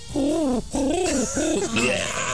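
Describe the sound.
A human voice imitates white doves sick with bird flu with three wavering, nasal cooing phrases in quick succession, each one drooping and warbling, fairly loud with no other sounds.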